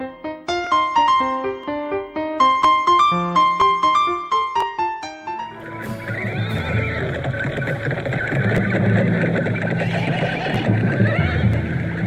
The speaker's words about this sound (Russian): Громкий стук копыт разбудил Бен-Яхи, крепко спавшего после сытного и вкусного обеда.